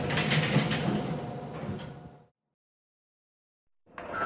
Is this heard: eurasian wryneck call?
no